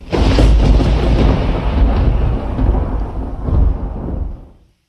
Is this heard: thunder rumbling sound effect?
yes